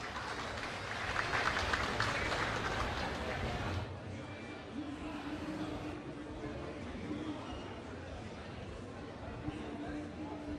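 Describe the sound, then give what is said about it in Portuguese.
A burst of crowd applause for a newly announced competing composition at a song competition, dense and loud for about four seconds, then cutting off abruptly to a lower murmur of background noise and faint voices. “Salva de palmas.”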